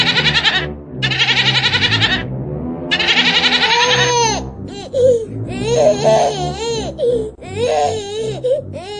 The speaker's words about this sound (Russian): Не плачь, не плачь, куплю калач. Не плачь, дорогой, куплю другой. Не плачь, не кричи, куплю тебе три.